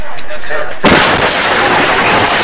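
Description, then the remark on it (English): A truck slams into the back of a bus reversing down a motorway near Shanghai, caught on CCTV: a sudden, violent crash bursts out of a quieter murmur and gives way to a dense, sustained roar of crunching noise as the bus flips over. “This shocking CCTV footage captures the moment a truck slams into the back of the bus, throwing the driver and passengers out and around the vehicle as it flips over.”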